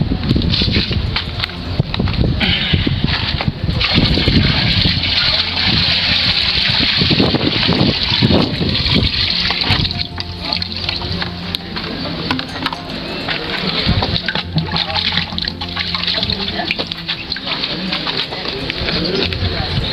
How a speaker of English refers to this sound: This is the quality of the water. You can see the turbidity and the contamination that is there. We're going to pour the water into this BioSand filter, and then you can watch what comes out of it.